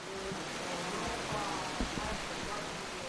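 The last heavy raindrops after a night of rain strike the glass canopy of a summer kitchen near Lake Boračko, a few distinct knocks standing out against a steady wash of dripping rain noise.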